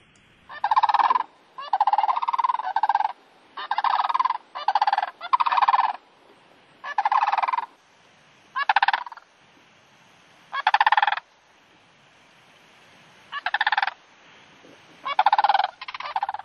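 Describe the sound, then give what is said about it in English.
Sandhill cranes call in loud, rolling, wooden-sounding rattles, a series of short bursts coming in irregular clusters with brief pauses between, with no talking. “And let's listen to that sandhill, because, that's another one that so many of us are fortunate here in Wisconsin to be able to see and hear.”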